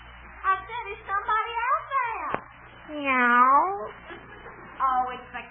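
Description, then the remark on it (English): A voice imitates a cat, giving several drawn-out, rising-and-falling meows, with one long wavering meow in the middle standing out loudest. “Oh, it's the cat.”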